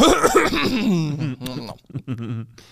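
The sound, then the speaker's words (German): An exaggerated throat clearing at the start of a recording, drawn out and voiced, followed by a few short, gruff vocal bursts that trail off into quieter rasping. “Wie kann man mit so einem Räusperer starten?”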